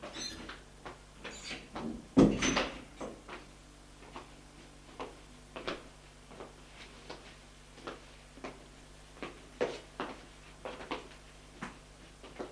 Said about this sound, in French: Elle ouvre la porte de sa chambre et trouve Guillaume devant la coiffeuse en train de fermer un tiroir.